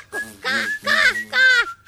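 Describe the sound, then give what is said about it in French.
A human voice imitates a rooster's crow in three drawn-out, sing-song calls, loud, with brief pauses between them. “Cocorico! Cocorico!”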